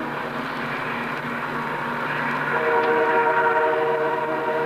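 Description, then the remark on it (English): A train rumbles past, its steady mechanical roar joined by a long, sustained horn blast that swells louder midway through. No voices. “There's the train.”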